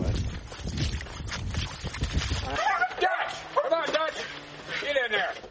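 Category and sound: animal, dog barking and whimpering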